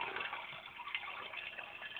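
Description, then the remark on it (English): A toilet flushes with a steady, rushing gush of water that stays fairly loud and even for about two seconds. No one speaks over it. “I am in the toilet because I'm going to do something that represents WWE in 2019”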